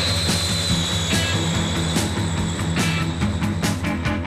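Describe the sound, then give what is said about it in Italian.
A loud, steady jet airplane roar with a high whine, blended with rock music and a driving drum beat that thumps through the noise. “Saliamo sul suo aereo e torniamo nella Russia sovietica, ….”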